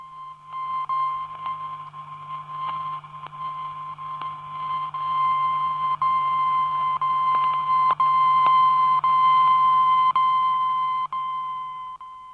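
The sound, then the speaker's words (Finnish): A radio beacon's steady, shrill electronic tone on the 19.995 MHz frequency, transmitted since 18.37, holds for about twelve seconds over a low mains hum and crackling static, with occasional clicks. No one speaks. “Ja kello 18.37 alkaen on megahertsin jaksoluku 19.995 lähettänyt seuraavanlaista ääntä.”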